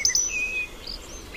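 A European robin, identified by the Merlin app, sings thin, high, wavering whistles, two quick notes and then a longer sliding phrase, fairly soft over a faint outdoor hiss.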